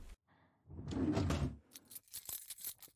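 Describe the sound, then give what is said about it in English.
A rustling shuffle gives way to a bright jangle of keys, several quick metallic clinks bunched together over a second or so, with no one speaking. “Oh, is that where the real keys were?”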